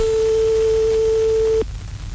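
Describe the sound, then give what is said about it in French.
A single long, steady electronic telephone ring tone, the second ring of a birthday call placed by Radio Arc-en-Ciel, a pure mid-pitched hum held for about a second and a half before cutting off abruptly, leaving a faint background hiss. “Deuxième sonnerie.”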